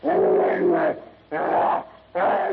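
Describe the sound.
Three loud bursts of snarling, roaring howls of savage rage from a gigantic half-human brute as it crashes to its knees while fighting Tarzan. The first howl is long, and the next two are shorter and separated by brief gaps; a human voice seems to be imitating the creature.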